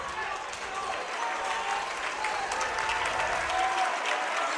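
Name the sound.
basketball crowd cheering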